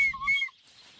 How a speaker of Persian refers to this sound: سوت زنان از میون بوته های بلال میگذره. گنجشکا میترسن و پرواز کنان از اونجا میرن.